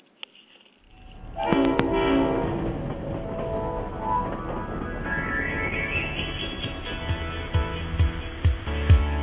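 A theme song's instrumental intro fades in after a brief quiet moment, with dense layered tones and a rumbling, train-like texture. Sharp percussive hits punctuate the final seconds. No one speaks.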